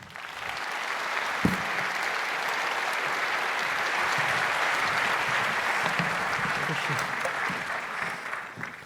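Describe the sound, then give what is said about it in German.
An audience applauds steadily for several seconds to welcome two speakers before their lecture, a dense wash of clapping hands that stays at an even, fairly loud level throughout. “Bitte einen sehr herzlichen Applaus für die beiden.”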